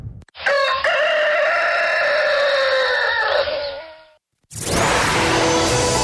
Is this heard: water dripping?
no